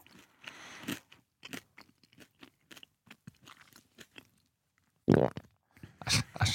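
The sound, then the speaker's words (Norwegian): Close-up crunching of someone biting into a hard nut and chewing it, a rapid series of dry, crackly crunches followed by a few louder, fuller bites toward the end. “Først munnen åpen, så med munnen lukka, så skal dere, får dere ett i et hver, hvilken nøtt er det?”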